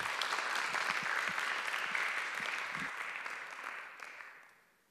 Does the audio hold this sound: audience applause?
yes